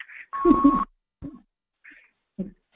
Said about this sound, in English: Oh, hang on a second. What's going on? We're getting a beeping. Do you think somebody put us on hold? Oh, no.